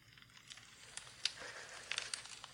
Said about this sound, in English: I'm going to put this... 12 hours of relaxing fireplace sounds, burning fireplace and crackling fire sounds on.